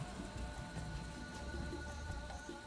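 A steady video game rain effect hisses continuously, a dense wash of patter with no breaks. It is fairly quiet and plays alone, with no voices.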